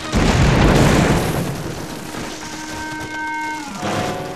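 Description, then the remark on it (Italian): A large stone, set moving when Tigger jumps on it, rolls through the Hundred Acre Wood and crashes onto a house: a loud, heavy, booming roar that peaks early and slowly fades, followed by steady sustained tones near the end. “La pietra si mosse, cominciò a rotolare con gran fracasso attraverso il bosco dei 100 acri e finì dritta sulla casa di Io.”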